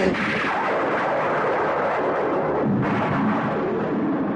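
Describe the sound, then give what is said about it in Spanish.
Loud, rolling thunder rumbles and crackles without pause, dense and heavy throughout, with a fresh burst swelling up about two-thirds of the way through. No voices are heard. “Con estos relámpagos comenzaba en el 81.”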